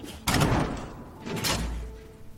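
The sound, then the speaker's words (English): A man swings a door shut with a solid thud. A second later comes the scraping slide of a bolt as he draws it closed to lock the door. No one speaks. “The man closes the door and slides a bolt to lock it.”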